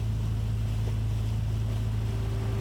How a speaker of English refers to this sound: I stepped to one side as the ferry arrived. The engines were killed, and they started rattling the iron gangplank down onto the dock. I heard the slapping sounds of the waves against the fiberglass sides of the ferry.